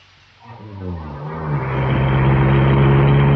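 car arriving outside

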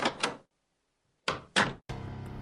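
door opening

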